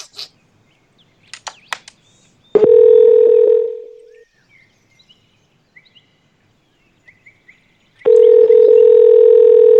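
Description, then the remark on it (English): A phone line rings out while waiting for someone to answer: two loud, steady, low-pitched ringback tones separated by a long pause of silence, with a few faint clicks before the first. “I forgot they're supposed to pick up at some point, right?”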